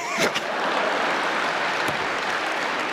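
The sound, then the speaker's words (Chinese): An audience claps steadily, a dense, even wash of many hands applauding at a strong level throughout, with a couple of sharper bursts near the start. “可以鼓掌了。”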